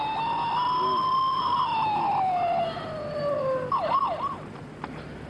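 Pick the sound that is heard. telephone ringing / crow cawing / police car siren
police car siren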